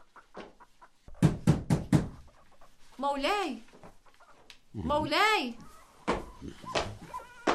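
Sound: knocking on a door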